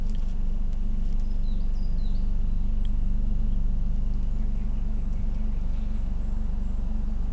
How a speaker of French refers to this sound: Le bruit de fond que vous entendez, c'est la clameur du vent. Ça fait des effets de mer.